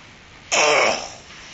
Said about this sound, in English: I want you to cough in here. Cough, cough, cough. Cough as hard as you can. Can you cough any louder?